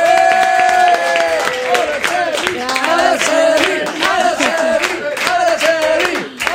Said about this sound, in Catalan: Doncs bé, alegrem-nos que tot i aquests inconvenients la nostra convidada hagi pogut venir a visitar-nos, no? Llavors sí, ens rebem amb un fort aplaudiment a l'Araceli Segarra!